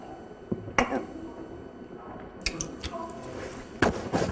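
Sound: chewing gum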